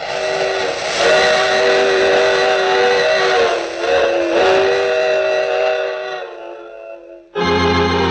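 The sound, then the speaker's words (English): A loud steam train whistle blows a long, sustained chord-like blast that wavers and fades, then cuts off briefly before a second sharp blast begins. “I take this same train every week at this time.”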